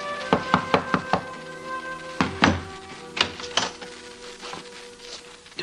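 impact, knock on a door

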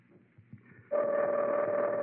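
signal or alarm, telephone ringing unanswered

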